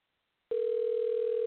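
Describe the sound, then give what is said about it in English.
After half a second of silence, a steady, mid-pitched telephone ringback tone begins and holds evenly to the end, as on an outgoing call made live on air on the radio show Let's Talk Real Talk, waiting to be answered. No one speaks. “Like, well, every call thus far has been real, but let me see if she's going to answer her phone.”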